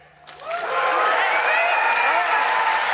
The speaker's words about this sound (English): Good cheering.